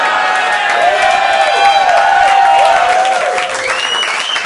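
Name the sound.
audience cheering and applause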